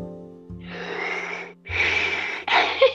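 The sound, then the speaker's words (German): Slow, heavy mechanical-sounding breaths in the style of Darth Vader, three long raspy hiss-like breaths separated by short pauses, with a low steady hum underneath and no speech. “Oh, man muss dich atmen. Das ist gruselig.”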